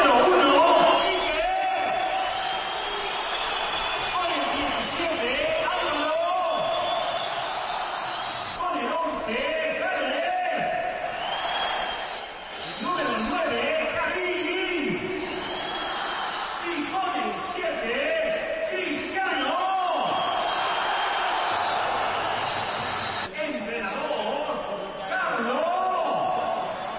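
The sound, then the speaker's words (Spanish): A large stadium crowd at the Bernabéu in Madrid roars continuously as important Real Madrid names are announced, with swelling cheers, whistles and shouted reactions rising and falling in waves over nearly half a minute, loud and dense throughout. “Y este es el sonido del Bernabéu en el momento de citar algunos nombres trascendentes e importantes del Madrid.”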